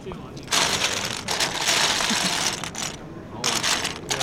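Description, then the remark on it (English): Danish Lego toy pieces scratching and clattering against each other in three loud, sustained bursts of bright, rustling plastic noise, separated by brief quieter pauses. “The sound of Lego pieces scratching against each other is familiar to most Scandinavians.”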